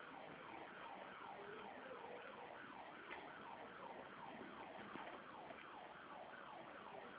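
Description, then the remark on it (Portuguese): A fire truck siren wails in rapid, repeating up-and-down sweeps as the truck passes by, steady throughout, with no one talking. “Só um minutinho, tá passando um carro de bombeiro aqui agora, tá um barulhinho, peraí, só um minutinho.”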